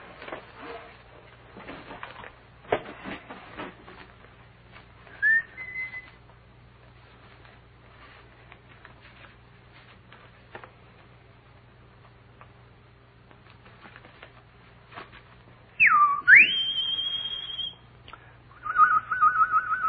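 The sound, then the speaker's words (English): A Bonelli's warbler sings: scattered dry ticking notes and a brief whistle, then a louder swooping whistle followed by a steady high note, with no talking. “That, I'm sure you'll all remember, is the voice of Benelli's Warbler.”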